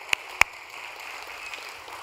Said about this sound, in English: So without further ado, let's meet the team. Team, come on up here. Put a round of applause.